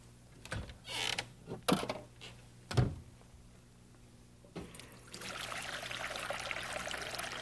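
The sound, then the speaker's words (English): A few soft clunks and handling knocks, then a steady stream of water pours into a bowl for dyeing eggs, a bright continuous splashing trickle that lasts several seconds. No one speaks. “Put some water in the bowl, some water in the bowl, and then we'll put the dye in there with water in the bowl.”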